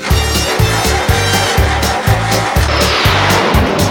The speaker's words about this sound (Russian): Машина зверь, слушай.